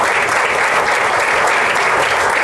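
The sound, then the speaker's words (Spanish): Steady, dense applause from an audience for Gustavo Mercado of the Cámara Municipal, loud and continuous throughout, a wash of many hands clapping with no voices standing out. “Pues, un aplauso para Gustavo Mercado.”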